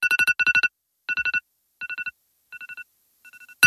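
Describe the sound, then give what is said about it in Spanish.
An alarm clock rings in the morning with rapid electronic beeps in quick bursts of four high, bright tones, repeating with short pauses and gradually fading, then a brief loud click at the end. No one speaks. “Suena el despertador por la mañana, nos levantamos y desayunamos.”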